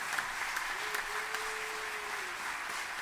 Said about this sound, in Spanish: fuerte aplauso.